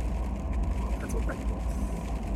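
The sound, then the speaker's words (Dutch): A car cruising at speed on the A16 highway from Rotterdam in the rain, with a steady, loud low rumble of road noise and a continuous wet hiss filling the cabin throughout. “Ik rij in de auto, het regent. Ik rij Rotterdam, de A16.”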